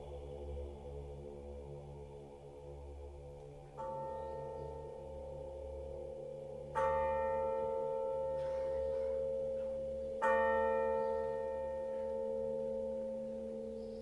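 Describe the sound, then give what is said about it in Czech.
A church bell tolls from a tower, three strong strikes a few seconds apart, each leaving a long ringing hum that overlaps the next, over a low steady rumble with no voices. “i ko srce jedno, gde jad ljuti bije, milosno zvono zacikta sa tornja.”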